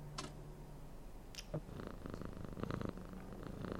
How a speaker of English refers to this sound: There's a cat up there by an open window, enjoying the evening air.